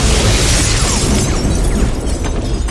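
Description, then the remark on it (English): A limpet mine explosion shattering a glass screen, filling the whole clip with a dense, sustained roar of blast noise and crackling debris, no voices present. “The screen was out except for thick, jagged ridges of glass poking up through swirling black smoke.”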